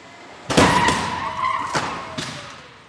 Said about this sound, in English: a specially designed driverless cart that crashes into the test car. Test permits, 2, 1, underway. A small crowd of observers gets quiet as the cart accelerates up to 37 miles an hour. And then...